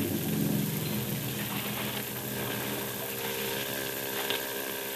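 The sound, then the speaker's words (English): A motorboat engine up ahead in a foggy channel drones steadily with a low, even hum and faint tonal overtones, mixed with a soft wash of water. No one speaks. “Better not steer directly to where the sound of his motor's coming from.”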